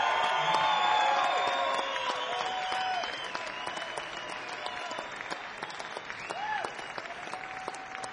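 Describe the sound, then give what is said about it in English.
An audience at the Keswick Theater in Glenside, PA claps steadily with scattered whoops and cheers rising above the dense applause, welcoming a band's new keyboard player, loudest at first and easing slightly, with a brief swell of shouts near the end. “And how about a beautiful, warm Keswick Theater, Glenside, PA. … welcome for our new friend Scott on the keys, everybody.”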